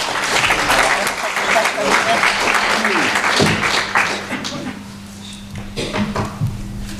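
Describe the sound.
A burst of hearty applause, dense rapid clapping that stays loud for several seconds, then thins out and tapers off, with some voices mixed in toward the end.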